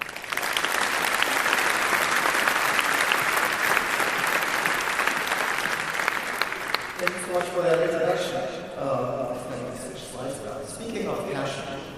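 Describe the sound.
A large audience claps steadily in a dense, even burst of applause for several seconds, which then fades as a single voice begins speaking over the last dwindling claps.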